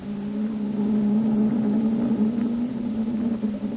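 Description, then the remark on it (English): A steady, loud mechanical drone of the engines of the X-915, the first atomic submarine, running underway in the open sea at 30 knots, with a constant low hum and faint rumbling texture throughout, no voices. “His engines sound good.”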